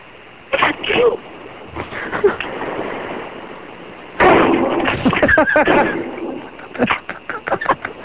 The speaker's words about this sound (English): I got to hear like four or five shots in a row. You have to reload after two? Yeah, probably. Yeah, two. If it's a standard double-barrel shotgun.